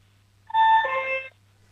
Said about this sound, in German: Und jetzt will ich gerne noch die Türklingel hören.